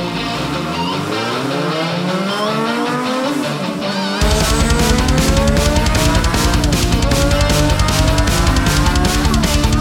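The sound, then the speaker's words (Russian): A loud, high-revving race car engine sweeps up in pitch, then a sudden roar with a sharp squeal of heated tires cuts in, dense, with no voices. “Пульс на пределе, виск разогретых шин. Сражение с ветром, драйв и адреналин.”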